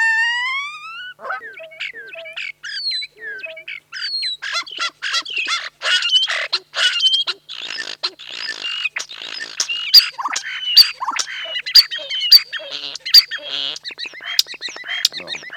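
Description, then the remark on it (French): A starling sings a long, varied song of rising whistles, rapid clicks, rattles and wheezy chatter, fairly loud, growing busier and more percussive toward the end. “on part d'un chant des tourneaux sans sonner”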